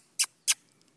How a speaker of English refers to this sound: There's one other bird coming over, but it's a little blackbird. Yeah, this is really close. Yeah. It's tame. That blackbird is tame. Foraging for stuff in the dirt.